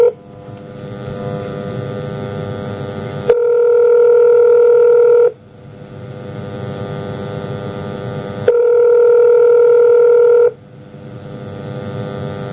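A telephone ringing tone repeats in a steady cycle, a buzzy tone alternating with a smoother, higher tone, heard twice with nobody speaking, as an outgoing call tries to reach someone.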